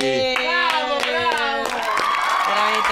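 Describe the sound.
Applause for a weather guest on a May Day broadcast, in the form of steady, rhythmic claps, about three per second, fairly loud over a sustained voice or tonal sound that carries on underneath.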